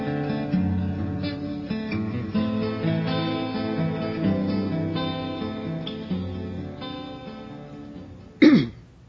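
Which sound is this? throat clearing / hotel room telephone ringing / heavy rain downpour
throat clearing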